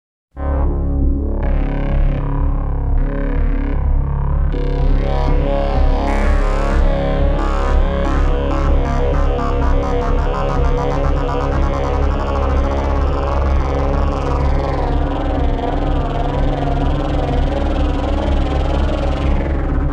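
A thick, distorted synthesizer drone: the sub-oscillator's deep sub-bass with hissy noise on top, the bass and noise being modulated so they shift and pulse, loud and continuous throughout with no voices.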